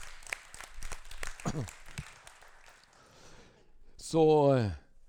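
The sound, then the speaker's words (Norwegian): An audience claps in a steady crackling burst for about three seconds in applause for two technical managers, then it fades out and a single voice rings out with a loud, falling call over the last of it. “Det er altså to tekniske chefer der nede som er virkelig verd en applaus.”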